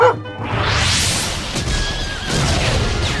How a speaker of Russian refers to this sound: Пушки так и палят! Грохот какой! И дым! Ничего не видно!